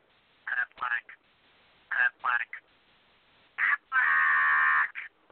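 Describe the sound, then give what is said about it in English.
Nasal duck quacks come in short clusters of two or three, then a long drawn-out quack and one final short one. They sound thin and slightly tinny, with no talking. “So, in case you need any ducks, there's a quacker for you.”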